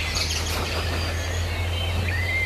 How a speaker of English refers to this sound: This is an interesting bird, and the reasons you two are hearing it is interesting too.